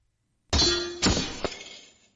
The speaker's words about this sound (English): Shield bashes shield. The sound of the two attacks striking together sends a small shockwave out that ripples the leaves of the nearby bushes.